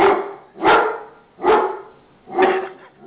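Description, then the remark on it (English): A dog barks four times at a steady, unhurried pace, each bark loud and full-bodied with a mid-pitched tone, and brief quiet gaps between them. No one speaks. “Who the fuck is Slimmy's dog?”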